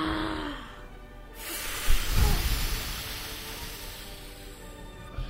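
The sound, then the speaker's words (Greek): A voice imitates a strong gust of wind, exhaling in a long, forceful, breathy whoosh that swells after a brief pause and then hisses steadily for several seconds before trailing off. “Δυνατά σαν σύφουνας, άγρια σαν ανεμοθύελα και ορμητικά σαν χείλη τυφώνες φύσηξε. Κάπως έτσι δηλαδή.”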